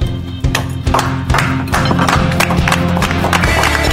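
A small group claps, the sharp, uneven claps overlapping into a steady patter over a low, sustained background hum.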